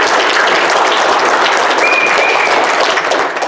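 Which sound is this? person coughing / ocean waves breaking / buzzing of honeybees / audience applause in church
audience applause in church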